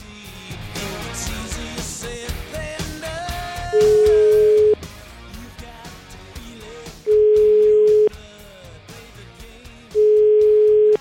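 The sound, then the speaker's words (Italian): A telephone dial tone sounds as three long, steady, loud hums, each about a second, spaced a few seconds apart over busy background music with no talking, as a call is placed on the Radio 24 show. “Andiamo a, facciamo una bella telefonatina, andiamo a controllare.”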